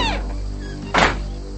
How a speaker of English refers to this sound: She locks the screen door and goes inside.